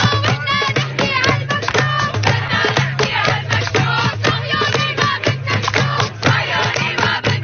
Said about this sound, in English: Meanwhile, at MIT, another one of the elite universities in America, you had a bunch of students. It looks to be a few dozen. It's not a huge crowd. Doing a little chanting.